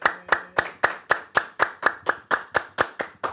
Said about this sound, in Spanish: Nunca sabes cómo reaccionar a los aplausos y los cantos de cumpleaños, ¿no?